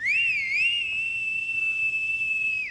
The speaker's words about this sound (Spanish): Silbó una vez hacia la casa de enfrente.